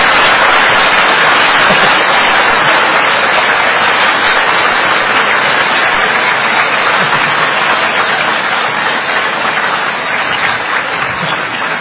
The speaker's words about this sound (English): Okay, with that, let's put our hands together and say sadhu 3 times and also clap. Sadhu, sadhu, sadhu. Go on, clap if you want to clap. Give it a good one.